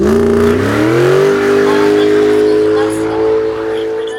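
A car engine revs up loudly, its pitch climbing over the first second before settling into a steady, sustained roar of acceleration.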